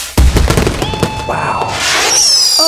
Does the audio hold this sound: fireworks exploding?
yes